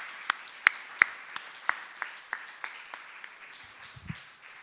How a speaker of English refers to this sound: Isn't our God great? Yeah, why don't we just applaud him right now for his great creation? Woo.